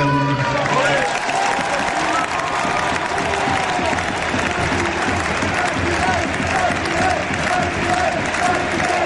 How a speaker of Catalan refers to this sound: Crit unànime ara del Camp Nou. President, president.